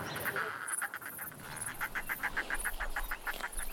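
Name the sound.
birds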